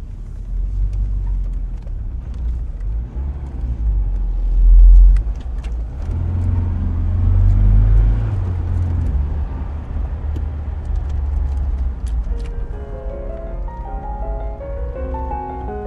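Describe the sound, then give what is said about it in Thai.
A car passes a security checkpoint, where a card is exchanged with a guard, and drives on to the house of Khunying Raksuri: a steady low engine rumble and road noise, swelling briefly a couple of times, with faint clicks and a light higher-pitched hum near the end; no one speaks. “มาแม่แลกบัตรกับรปภ.ที่ด่านแลกบัตรก่อนขับรถเข้าไปถึงบ้านของคุณหญิงรักสุรี”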